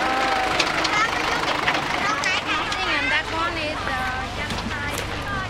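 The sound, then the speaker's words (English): A large garbage truck's engine rumbles steadily as it approaches, a continuous low drone beneath loud, overlapping chatter from several people. “It's now the truck is coming, so maybe they will be busy to try to...”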